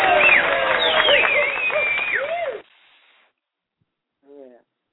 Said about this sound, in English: But did they just boo me at first? Hold on. They booed you because they said.